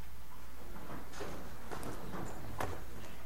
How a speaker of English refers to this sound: Move your chairs. Just get you a space. You can fold the chair, put it against the wall. Just get you a space. Spread out.